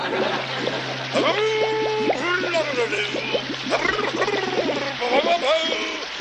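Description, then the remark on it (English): Steady water runs from a tap into a sink, a constant hiss heard throughout while voices talk over it with rising and falling tones. “That's enough water”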